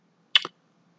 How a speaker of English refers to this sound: I'm clicking my pen. Can you hear that?